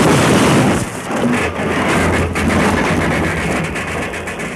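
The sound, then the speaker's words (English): A train engine derailing and crashing: a loud, continuous roaring rumble with dense grinding noise that fills the whole stretch, heavy, with no voices. “That's what Deuce planned to have happen to the whole train. A derailment”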